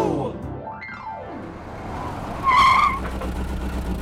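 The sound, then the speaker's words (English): An electric toy detective car's motor revs and sweeps past, then tires let out a sharp, loud squeal for about half a second before the motor keeps rumbling underneath. “We took my detective car to Amara's house.”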